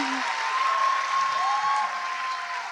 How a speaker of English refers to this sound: Too much. There's too much clapping. It's too much clapping.